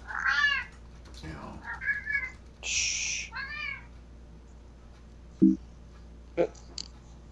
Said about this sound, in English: It's the cat.